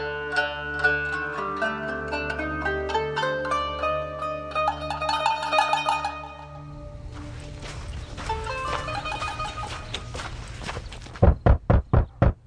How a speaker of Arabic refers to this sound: مشي بطرس بسرعة لحد لما وصل لبيت مريم والدة مرقس. كان الوقت متأخر، خبط على الباب،